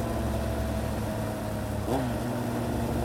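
A motorcycle engine drones steadily with a low, even hum, then its pitch briefly dips and shifts as it eases off, settling into a slower running tone. No voices.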